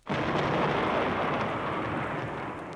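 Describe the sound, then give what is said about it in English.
A sudden, loud crash of thunder bursts in and rolls on as a dense, sustained rumble that stays strong before easing slightly, with no voices present. “There was a flash of lightning and a crash of thunder.”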